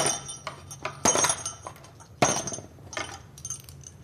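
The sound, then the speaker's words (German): Small golden bells jingle and clink inside a white box, with two louder shaken bursts among lighter scattered rattles, bright and metallic with no voices. “Goldene Schellen in einer weißen Schachtel und ein Gedicht dann noch.”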